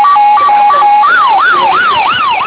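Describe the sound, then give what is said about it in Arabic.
A loud ambulance siren wails, starting with a two-tone hi-lo pattern and then switching to a rising and falling yelp, steady and unbroken throughout, with no voices, as the ambulance speeds off carrying a badly injured driver to the nearest hospital. “ركب أحد رجال الأمن معهم. اتجهت السيارة منطلقة راجعة إلى أقرب مستشفى.”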